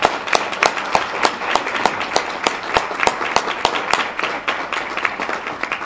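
A crowd applauds a family after they unveil renderings for a new Blinn College campus in Bryan, Texas, many overlapping claps forming a dense, crackling wash that holds at a fairly even level for several seconds, with no voices heard.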